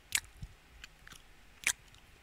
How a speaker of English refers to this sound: I feel like I'm chewing on it like a cow.